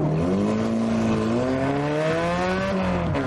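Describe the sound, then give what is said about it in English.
The Cats team's rear-engined racing car roars loudly and steadily, its pitch climbing gradually as it revs up over a few seconds, with a rich harmonic whine and no voices. “That really sounds like a racing car, woo!”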